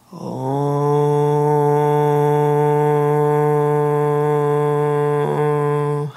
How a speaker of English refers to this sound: So you could try letting out the foghorn breath, a la Peter Levine.